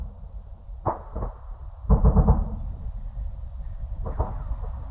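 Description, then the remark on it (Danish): Sharp supersonic bullet cracks, made as bullets break the sound barrier, snap out in short bursts, a few single reports and then a quick cluster, over a low, steady rumble with no voices. “Den her lyd af et oversmæld.”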